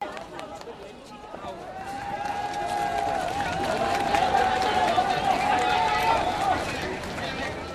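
A large crowd cheers and shouts continuously and loudly, swelling in the middle, with one sustained high-pitched yell or whistle carrying above the din for several seconds, as rescue workers carry a teenager on a stretcher to a vehicle after pulling him from a building that collapsed in a magnitude 7.8 earthquake in Nepal.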